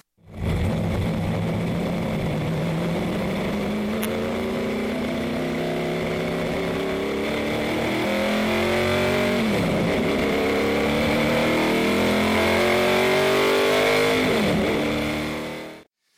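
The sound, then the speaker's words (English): A NASCAR race car with a 700 horsepower engine, driven by a professional driver at Texas Motor Speedway, roars loudly and continuously, its pitch climbing through repeated gear shifts as it accelerates, with no talking over the sustained engine noise. “We went out to Texas Motor Speedway, and I climbed into a NASCAR race car with a 700 horsepower engine under the hood, and I took that little baby for a ride.”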